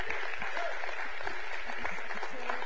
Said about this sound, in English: And while you give, come on with a shout of praise. Just clap and thank God that we can give. Amen?